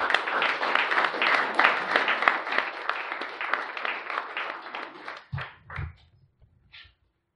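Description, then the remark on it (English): A crowd at an Alcoholics Anonymous meeting bursts into sustained applause for the speaker being introduced, dense and steady for about five seconds, then thins out into a few scattered claps and taps before fading to silence. “We'll clap for anything in Alcoholics Anonymous, don't we?”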